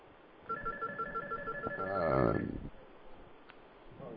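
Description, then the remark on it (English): A telephone rings on a radio show's call-in line with a rapid, warbling electronic trill for about two seconds as the first caller comes in, then cuts off with a clunk as the line picks up. Nobody speaks. “Well, we got our first caller.”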